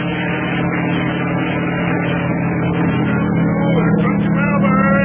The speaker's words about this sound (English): And that helicopter is bringing its mail from the United States.